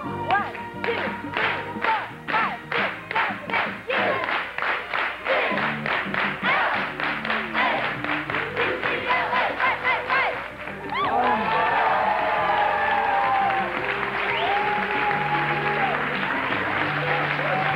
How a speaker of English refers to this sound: Lead them in a UCLA 8 clap. Okay.